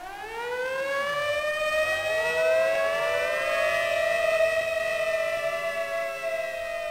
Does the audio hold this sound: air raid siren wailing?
yes